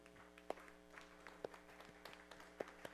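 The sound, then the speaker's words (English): A few scattered, hesitant claps from one person, four or so sharp hand slaps at irregular intervals, faint against a steady low hum, with no talking. “Not sure I agree with this guy, but I'm going to clap a little bit.”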